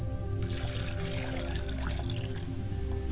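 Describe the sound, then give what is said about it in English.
Water pours steadily into a glass for about three seconds, a continuous trickling splash over a low background hum, with no voices, as a glass of water is set out as a libation for ancestors. “And I set a glass of water before my mother's people.”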